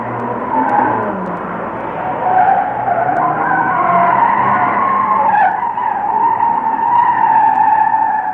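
Tires screech and skid continuously, loud, a high wavering squeal with engine rumble beneath, like a car chase in full swing, with no voices.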